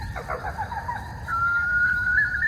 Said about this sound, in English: Was that like a mourning dove? No, definitely not. Could be a barn owl.